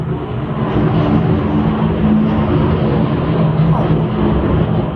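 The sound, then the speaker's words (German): A loud, steady low roar of an airplane passing close overhead, a broad rumbling drone filling the whole clip with no clear pauses. “Boah, ich glaube, das war richtig nach, dieses Flugzeug.”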